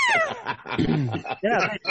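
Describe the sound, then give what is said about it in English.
A cat meows, three drawn-out, wavering calls in quick succession, fairly loud and clear with short gaps between them. “Kitty.”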